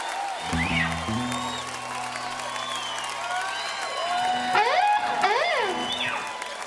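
A crowd applauds steadily throughout as a guest is invited up to help do a tune, with rising and falling whoops and whistles cutting through the clapping and a low sustained tone underneath.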